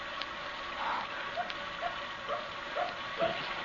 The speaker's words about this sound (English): There's that dog again. Don't you hear it? Somebody's out there. There might be a house nearby. Maybe it's barking to be let in. It senses somebody. There's something out there. There's somebody. That's why it's barking.